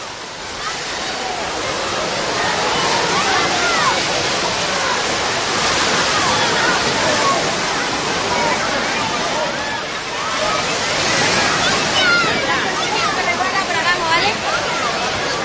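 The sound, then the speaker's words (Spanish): Waves churn and crash through an artificial wave pool, a loud, continuous rushing roar of water that swells in surges, with indistinct voices mixed faintly underneath. The pool's waves are started every hour on the hour. “Bueno, pues ya sabéis, cada hora pues tenéis una cita en esta piscina artificial o esta playa artificial, la piscina de las olas.”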